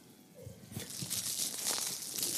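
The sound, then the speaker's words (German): An imitation of old shellac record crackle: a dense, hissy stream of tiny pops and crinkles that swells after a soft start and stays steady and bright, with no talking. “Die hatte so Schellackplatten, die haben immer so geknistert.”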